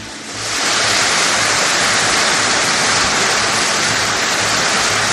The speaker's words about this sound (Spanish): Y todos aplaudiendo al psicópata, seguramente muertos de miedo.